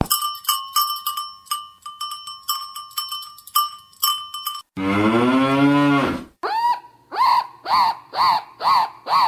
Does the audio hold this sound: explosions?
no